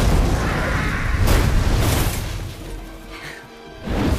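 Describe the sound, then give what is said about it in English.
A flaming car explodes and destroys a watchtower in a loud, roaring blast with crashing debris and deep rumble, several sharp bursts in succession, easing briefly before another burst of noise at the end. “A flaming car obliterates a watchtower and a golden flash.”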